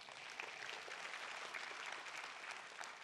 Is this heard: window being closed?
no